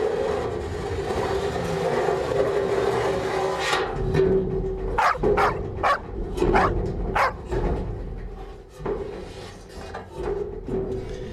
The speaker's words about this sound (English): And that dog barking should tell you that you're listening to Sane Radio.